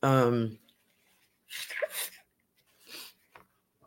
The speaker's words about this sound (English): I feel like I have to sneeze.